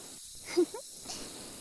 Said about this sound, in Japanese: いいわよね、このシュワシュワって癖になりそうな気持ち、わかるわ。